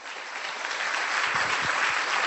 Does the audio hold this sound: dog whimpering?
no